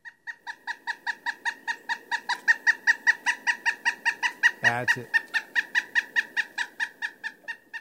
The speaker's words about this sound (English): The pileated we played earlier and the red-breasted. Yeah, I think it was the pileated woodpecker. Yeah, the pileated.